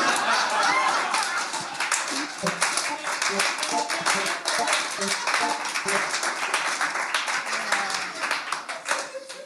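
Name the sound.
slow clap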